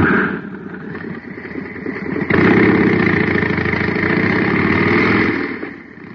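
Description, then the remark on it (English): A jet cycle engine, just filled with super fuel at a filling station, roars with a steady, buzzing drone, jumping abruptly louder partway through and holding that intensity before easing off slightly at the end. No voices. “Now listen to the same jet cycle filled with super fuel.”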